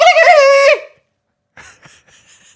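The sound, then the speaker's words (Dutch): A person's voice imitates a rooster crowing in one loud, sustained, pitch-bending call, followed by a pause and then a few faint, scattered vocal sounds. “Moet ik een betere poging tot een haan doen?”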